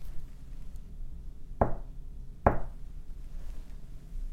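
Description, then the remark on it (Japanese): Someone knocks twice on a wooden house door around midnight, solid knocks spaced about a second apart, each a dull thud with a short ringing decay over a low, steady background hum. No voices. “トントンと誰か戸をたたくものがありました。”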